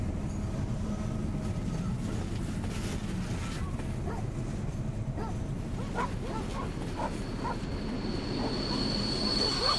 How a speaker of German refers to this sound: Wir verlassen jetzt den Bahnhof Probstzella. Demnächst erreichen wir Ludwigstadt. Es ist alles okay. Der Zug ist freigegeben. Komisch. Der Zug fährt aber heute langsam aus dem Bahnhof.